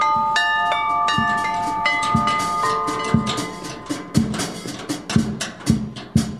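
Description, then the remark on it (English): Twenty tuned car mag wheels mounted on a tractor, ten on each side, the top ones from Holden Geminis, ring out as bells in a bright melodic sequence, several pitches sustaining and overlapping, joined by a steady low thumping beat from a kick drum fitted to the engine block, growing more prominent toward the end. “On each side of the tractor, we've got 10 tuned mag wheels.”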